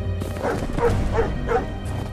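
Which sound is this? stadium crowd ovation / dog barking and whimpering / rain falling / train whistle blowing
dog barking and whimpering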